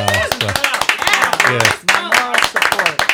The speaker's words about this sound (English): You can shout or do whatever you want or clap some more.